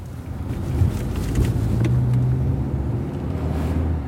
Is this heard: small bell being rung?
no